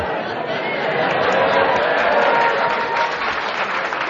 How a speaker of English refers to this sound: Ross is playing to the audience. That's why they're clapping here.